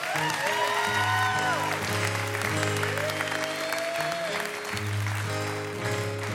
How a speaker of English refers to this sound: Can we have another round of applause